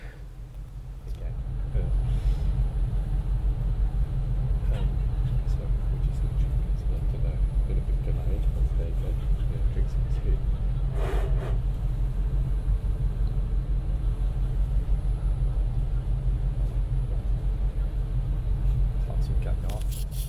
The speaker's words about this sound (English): So now we're on the train coming into London that I would have been on when we got to the end of part two.